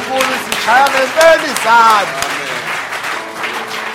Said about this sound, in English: This, I see people don't want to mess up their manicure. While others we are clapping, they just say. In the presence of the Lord, we really clap. Amen.